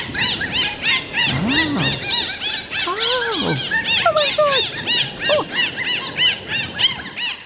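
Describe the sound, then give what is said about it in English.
Dolphins squeal and whistle without pause, a dense chatter of rapid high chirps overlaid with longer rising and falling tones that swoop up and down in pitch. No one speaks. “Wait, Dan, dolphin, come back.”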